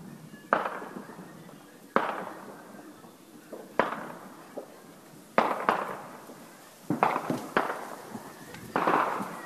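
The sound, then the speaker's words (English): New Year fireworks being shot off all over a town boom and crackle repeatedly, sharp bursts followed by rolling echoes and trailing crackles, coming every second or two with some overlapping near the end. “They're shooting fucking fireworks all over.”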